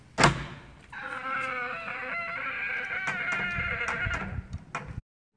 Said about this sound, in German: Er befreit sich aus dem Gatsch und stapft auf das große eiserne Tor zu. Als er davor steht, öffnet er sich quietschend und knarrend von alleine.